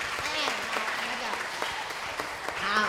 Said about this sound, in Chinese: 要，我们给他们掌声鼓励，再给他加码。